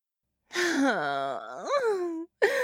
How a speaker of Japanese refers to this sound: 男の子の泣き声ってどうしてこんなにかわいいのかしら。